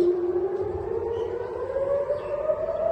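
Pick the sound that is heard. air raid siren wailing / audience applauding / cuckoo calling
air raid siren wailing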